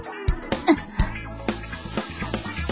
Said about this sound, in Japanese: ジュージューと焼き音を立てる金色の甘き生地一枚を目前に、二人の腹ペコが自己の存在をかけて睨み合う。